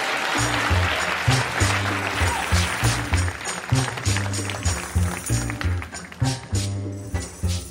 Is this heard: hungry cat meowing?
no